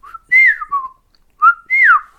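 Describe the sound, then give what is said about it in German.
A person whistles a short birdlike phrase imitating the call of a golden oriole: a few quick sliding notes, a pause, then two more swooping whistles, clear with no talking. “Und es klingt dann nicht, pfeif mal Ja.”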